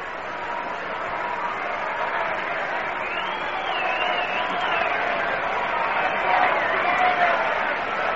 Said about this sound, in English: 2-2 count to Thomas. The crowd starting a rhythmic chant of "We want a hit."